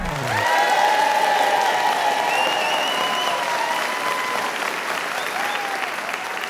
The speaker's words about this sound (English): Thank you, ladies and gentlemen, for that wonderful round of applause, and welcome to an all-new episode of Paul Sinha's Perfect Pub Quiz